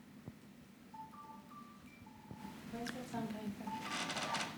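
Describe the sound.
A mobile phone rings with a short, beeping melodic ringtone that repeats and grows busier, heard at moderate volume over a murmuring room with faint background voices.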